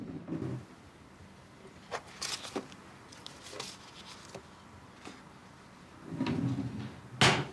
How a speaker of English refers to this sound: He opens a drawer and takes out a suture kit.